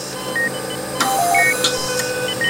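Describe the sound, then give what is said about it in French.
Hospital emergency room monitor alarms: several short electronic beeps at different pitches overlap and repeat irregularly over a steady, noisy background hum, with no one talking. “C'est un concert d'alarme permanent.”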